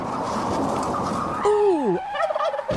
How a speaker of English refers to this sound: Ooh! Ouch! Was that a big bird?